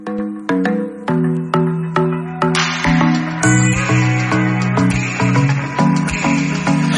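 A pop song's instrumental intro plays, with bright, evenly spaced synth or keyboard notes over a fuller backing that thickens after a few seconds, loud and steady, with no singing yet.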